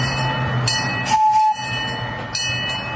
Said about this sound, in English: Just like the other kids, she topped off her day with a ride on a miniature train.